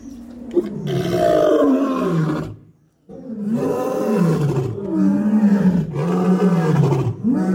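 Deep, full-throated lion roars fill the air at a lion breeding farm, the largest male's bellow triggering the other two lions in the same cage into a loud overlapping chorus, with a brief pause before the roaring surges again.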